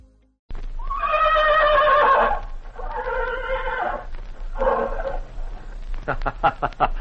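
A horse whinnies loudly in three long, quavering calls, followed by a quick fluttering snort-like burst at the end.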